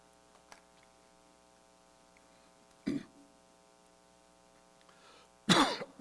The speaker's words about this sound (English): I hate coughing.